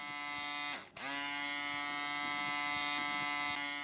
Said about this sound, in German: Der elektrische Rasierer. Vor 90 Jahren kam der erste auf den Markt in den USA.